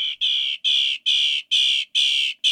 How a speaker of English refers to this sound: Mockingbirds sing a lot. They're masters of mimicry, and they're also prone to ramble on and on. Sometimes they even sing at night. If you're the sort of person who dislikes silence, the mockingbird's the bird for you.